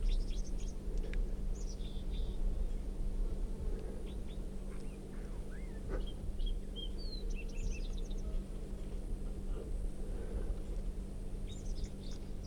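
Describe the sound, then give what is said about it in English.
Crossbill song from a wild red bird with a crossed bill and yellow down the middle of its belly: scattered short, high chirps and thin whistled notes in irregular bursts, heard over a steady low hum with no talking. “This wild bird is red, and it has a right crossing bill, and it has quite a bit of yellow right down the middle of the belly.”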